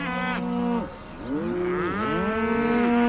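A bull bellows in long, deep, strained calls as it presses its horns against the locked gates of a cattle yard and tears at the ground with its hooves, one drawn-out roar breaking off briefly before a second rising, wavering bellow that swells louder to the end, with no voices.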